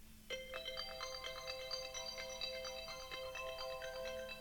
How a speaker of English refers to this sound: That's my ringtone.